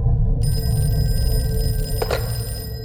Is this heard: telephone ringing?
yes